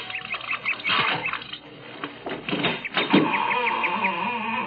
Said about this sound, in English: A creaking door, just the right Victorian touch. Our spring rain. A little oil will take care of that.